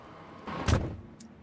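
A woman shifts into a car seat with a brief rustle as she climbs in, then a car door shuts with one heavy, low thud, followed by quiet and a faint click.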